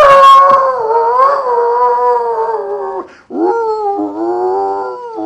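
A dog howls out back in long, wavering, tuneful notes, two sustained howls separated by a brief pause, loud, with no talking.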